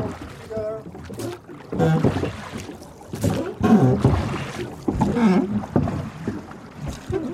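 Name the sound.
oars splashing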